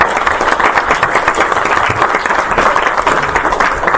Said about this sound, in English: Let's do a round of applause. Okay. Thank you so much.